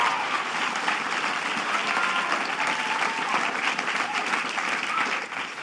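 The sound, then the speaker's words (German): Steady applause from an audience fills the whole stretch, a dense, even patter of many hands clapping at once, fairly loud, tapering slightly at the very end. “Jawohl, danke. Applaus.”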